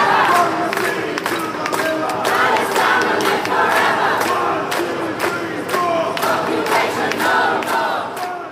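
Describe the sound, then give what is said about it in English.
A large crowd cheers and chants loudly and continuously in the streets of Liverpool, waving Palestinian flags and the logo of Hamas, many voices overlapping in a dense roar with rhythmic rising shouts and sharp claps or bangs cutting through at intervals. “Liverpool crowds waving Palestinian flags, waving the logo of Hamas, celebrating in the streets of Liverpool.”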